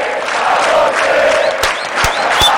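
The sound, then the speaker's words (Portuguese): A massive stadium crowd of fans sings "Parabéns pra você" (happy birthday) together in a dense, steady roar, with a few sharp claps or bangs cutting through near the end. “A galera cantando parabéns pra você e pra mim. No estádio, exatamente.”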